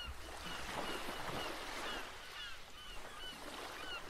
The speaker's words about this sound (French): Le silence est rompu par le chant des mouettes. Elles se trouvent non loin, sur les rochers de la plage. Vous êtes seul face à la mer, paisible et puissante.